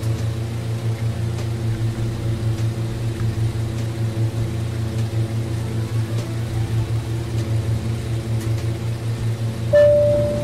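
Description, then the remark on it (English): An old-style microwave oven hums steadily with a low, droning whir throughout while a coffee with chocolate milk is being made, then a single sharp beep sounds near the end. No one speaks. “You literally hear him making the damn thing. With the old style microwave, too!”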